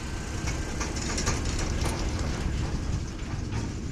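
Large tractors hauling overfull trailers of maize silage rumble past at harvest time in Karft in a steady, continuous drone of engine and rolling wheels, with faint rattling over the deep low-end roar and no voices.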